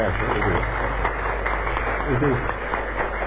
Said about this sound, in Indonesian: Nah, makanya saya senang sekali. Saya kira anu perlu kita tepuk tangan.